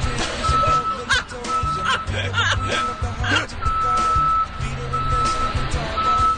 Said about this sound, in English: There was so a truck beeping. Backing up. Beep, beep, during the performance.